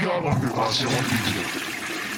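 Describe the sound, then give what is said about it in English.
A toilet flushes, a loud rushing, gurgling swirl of water that fills the whole two seconds, with a voice faintly mixed underneath. “Sorry, I have to flush the old lady nerd.”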